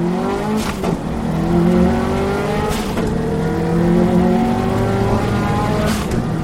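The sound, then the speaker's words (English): A rally car engine roars loudly, its pitch climbing steadily through the gears, with brief bursts of noise at each gear change as it accelerates hard from 0 to 80 in 13 seconds on a shakedown stage, a short section of a rally course. “He takes us from 0 to 80 in 13 seconds.”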